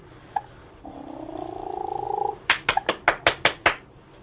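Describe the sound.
A person makes a steady, slightly rising purring sound for about a second and a half, then claps seven times in a quick, even rhythm, to get a baby to look up.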